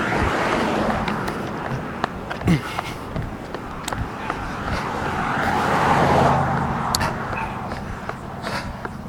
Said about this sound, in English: And I'm on East-West Union Street, which carries a bit of two-way traffic that I'll not pause for. You'll hear this coming up, just for the spirit of continuing to talk.